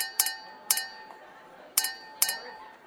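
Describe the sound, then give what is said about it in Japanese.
Glasses clink together in a toast at the start of a group drinking party, four bright ringing chinks in two quick pairs, each leaving a short shimmering ring that fades out. A faint murmur sits underneath, with no clear talking. “それじゃあ早速乾杯しましょう。乾杯。”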